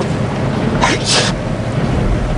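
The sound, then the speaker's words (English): A single sharp sneeze inside a car on a rainy day, heard as two quick breathy bursts close together, cutting through a steady low rumble of background noise like rain or a running engine. “Bless you.”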